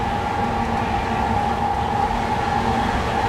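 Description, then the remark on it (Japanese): A steady, loud rumble of a train running on rails, heard from inside the car of a train that has left Shinagawa bound for Izukyū-Shimoda, with a constant low drone, a humming tone around the middle, and faint rhythmic rattling throughout. “この列車は全ての座席が指定されております。”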